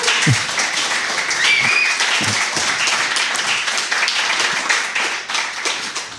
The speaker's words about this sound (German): Mal ein Video jetzt nochmal klatschen, oder was? Jetzt könnt ihr noch einmal klatschen, bitte.